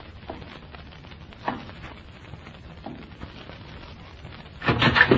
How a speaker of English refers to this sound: Wolf, kick open that door. If it ain't open, shoot it open.